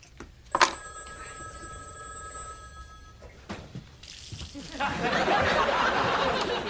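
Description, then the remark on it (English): A telephone bell rings with a steady, bright tone for about three seconds and then stops, followed by a loud rush of running water filling a hot tub. “I'll get the hot tub, you get the phone.”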